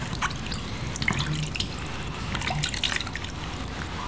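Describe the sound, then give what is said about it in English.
A tap runs steadily into a sink while a young girl washes her hands, splashing and rubbing under the stream, a continuous watery rush with small irregular splatters and no voices. “Go and wash your hands.”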